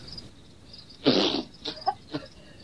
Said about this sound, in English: Jesus God, where are all these crickets coming from?